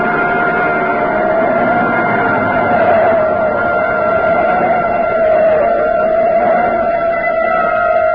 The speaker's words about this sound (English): Police siren a block behind.